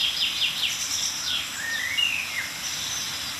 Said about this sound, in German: Aber wir hören ein paar Kontaktrufe oder milde Aufregungsrufe einiger Meisen um uns herum. Und die gehören zu der Fraktion, die gerade sehr, sehr still ist.